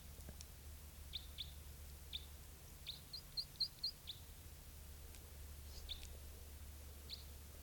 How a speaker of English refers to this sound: Here's that bird.